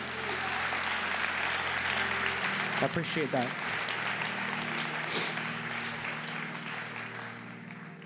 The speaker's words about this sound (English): I appreciate the 8 people that clap for a hard word from God.